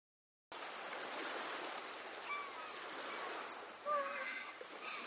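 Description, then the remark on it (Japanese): A steady, rushing wash of ocean waves on a shore fills the scene at moderate volume, swelling slightly near the end, with a couple of faint, brief high calls drifting over it. “波にさらわれちゃうかもしれないんだから。”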